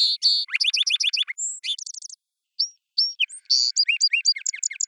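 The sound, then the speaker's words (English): A young male song sparrow, after almost a year of learning and practice, sings two adult songs, each a bright jumble of high, rapid trills, buzzy notes and sharp chirps, separated by a brief pause with a couple of isolated whistled notes. “He's easily recognized as a song sparrow and will sing these songs for the rest of his life.”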